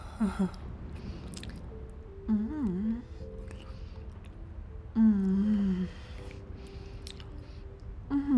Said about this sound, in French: Qu'est-ce que mes sœurs diraient si elles me voyaient sucer ma nourriture au lieu de la croquer? Mais c'est qu'on y prend goût.